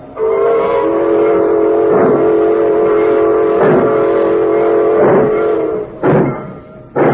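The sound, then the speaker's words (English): A freight train pulls out, rumbling steadily with a sustained, tonal horn-like drone, broken by periodic clanks of wagons, then quick bursts of noise near the end; loud, with no voices. “She's pulling out.”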